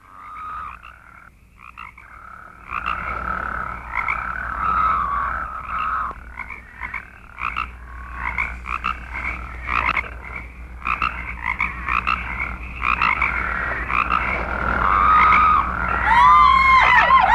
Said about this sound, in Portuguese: E as rãs começaram a subir e a cobrir a terra do Egito.